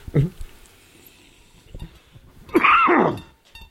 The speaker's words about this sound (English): I apologize for my coughing. Apparently, I'm going to cough a lot.